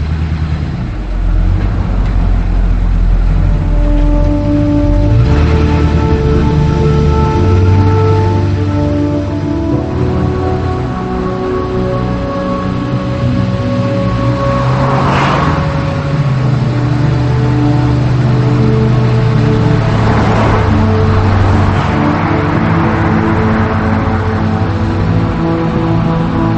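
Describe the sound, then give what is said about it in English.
A car engine hums loudly as the car pulls out of a parking lot and drives away, its pitch climbing and dropping through gear shifts over a steady road rumble, with no voices. “She puts her head down, and he pulls away.”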